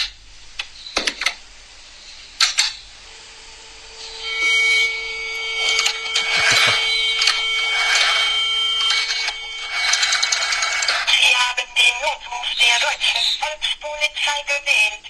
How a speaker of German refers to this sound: Dieser Podcast wird nämlich präsentiert von dem guten alten Telefon mit der Wählscheibe.